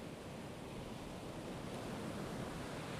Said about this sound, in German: Und da ist es, das dunkelblaue Meer. Da sind die Wellen, die Tag und Nacht immerzu auf den Strand zulaufen. Das Wasser, das bis zum Horizont reicht. Die unglaubliche Weite.